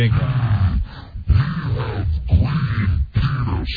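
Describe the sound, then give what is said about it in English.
A person imitates the Hulk with a deep, gravelly monster growl, sustained in rough, loud bursts with brief breaths between them, with no ordinary speech. “I think he needs to be a little lower. A little lower? Yeah, even lower than Satan. Like growling like monster.”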